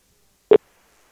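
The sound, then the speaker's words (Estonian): A single short telephone tone, a brief mid-pitched beep with a buzzy edge, sounds once amid silence, as on a phone line while a call connects. The call is to the Emergency Response Centre (Häirekeskus) information line, placed live on air by Raadio Kadi from Kuressaare. “Kutsub vähemalt.”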